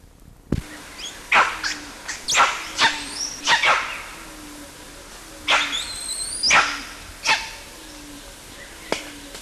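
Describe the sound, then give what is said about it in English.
Two animals, LB and CW, squeal, quist and bark in a rapid, irregular series of sharp calls, some rising into high-pitched whines, over a steady low background hum, with no talking. “CW squealing and both LB and CW quisting, barking, same date as preceding.”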